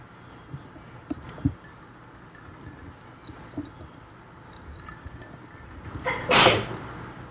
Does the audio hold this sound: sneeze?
yes